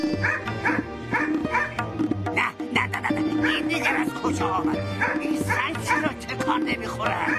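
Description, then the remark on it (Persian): A dog attacking a man trying to flee a village barks repeatedly in short bursts mixed with whimpers and yelps, loud and agitated over a steady background, with a voice speaking in between. “بیچاره خواست از آن روستا بگریزد که سگی به او حمله ور شد.”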